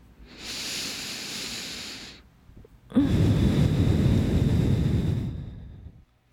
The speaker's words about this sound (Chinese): 好，所以你的呼吸要拉长，只用鼻子，不要用嘴巴，只用鼻子吸鼻子吐，然后把呼吸丢到他的 肌肤上会是这种声音。